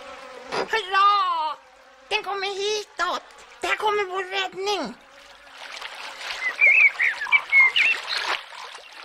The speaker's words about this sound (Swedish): Det är ju bara en groda.